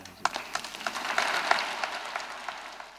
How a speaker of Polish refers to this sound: Wszyscy tu obecni w Konkatedrze Kołobrzeskiej składamy serdeczne Bóg zapłać Waszej Ekscelencji za osobiste poparcie naszego wniosku w Kongregacji Stolicy Apostolskiej oraz za tak wielkie dla naszej diecezji uczucie i współpracę. Gorące brawa.